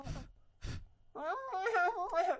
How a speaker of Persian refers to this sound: دوتا پف کن.